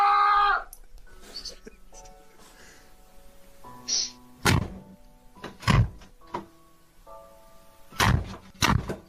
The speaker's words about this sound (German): Ja, du kriegst die Tür wortwörtlich nicht zu.